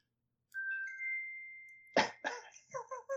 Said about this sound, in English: That's a chime for the correct answer. That's my watch.